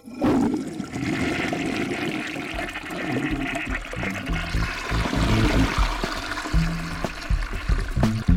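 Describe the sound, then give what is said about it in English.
A toilet is flushed on full flush to dispose of two dead pet fish, Surly number 7 and Surly number 8: a loud rush of swirling water that holds steady for several seconds before gurgling and draining away at the end. “Well, just throw him in there as well and we'll use the full flush.”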